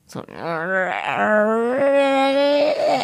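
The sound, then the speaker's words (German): A person imitates their own dog's whiny whimper, a sustained high, nasal whine that rises and wavers for about three seconds, fairly loud with no words. “Oh, aber sie hat auch so ein Quengel, so ein Quengel.”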